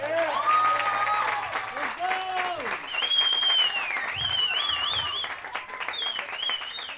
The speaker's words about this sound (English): So, thank you so much for coming out. Can we get one more round of applause for our Latinos in Action kids?